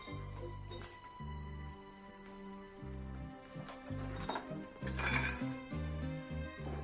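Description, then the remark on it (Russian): Pots and dishes clatter and clink in a kitchen, with several sharp metallic knocks scattered over a few seconds above a steady low tonal backdrop. No one speaks. “Можете готовить. Вот ваша кастрюлька, вот ваша крупа.”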